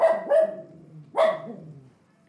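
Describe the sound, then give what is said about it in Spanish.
A dog barks three times in quick, uneven succession, sharp, with the last bark trailing off into a brief low tail. No one speaks. “Ve que ya está ladrando.”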